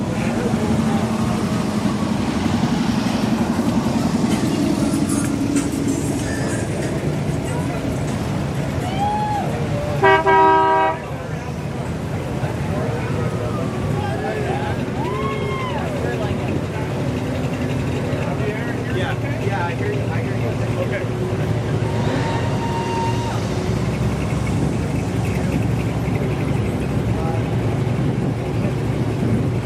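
Busy outdoor car show ambience with a steady crowd murmur and people chatting, broken once midway by a short, loud car horn honk.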